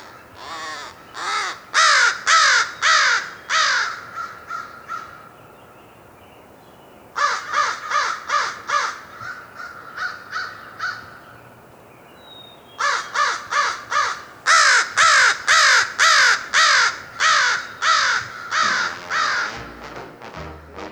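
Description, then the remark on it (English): An American crow caws loudly and repeatedly in several rapid bursts of harsh calls, with short pauses between series, set against faint background noise and no talking. “The American crow is a very vocal member of this noisy family.”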